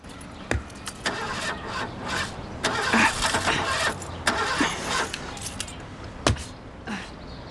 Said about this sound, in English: Outside Toby's, Candice gets into her car and turns the ignition.